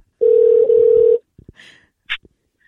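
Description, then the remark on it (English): A loud, steady telephone dial tone hums for about a second, then cuts off into a few brief beeps and clicks as a number is dialed to call a listener. “So let's dial her in.”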